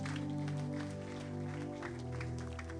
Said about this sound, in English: Oh, give the Lord a clap offering, somebody. Hallelujah.